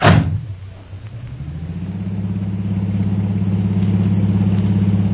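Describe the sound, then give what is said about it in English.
A taxi engine kicks in with a brief loud burst, then settles into a steady low droning hum that rises slightly in pitch and holds as the taxi is driven as fast as it can go to India House, with no voices. “Driver, take us to India House just as fast as you can.”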